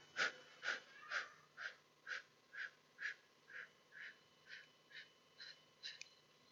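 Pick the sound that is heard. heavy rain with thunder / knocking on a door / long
long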